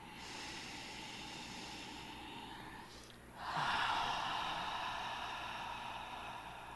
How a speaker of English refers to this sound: So listen to the sound of your own breath if you're practicing at home, or listen to the sound of mine and …'s breath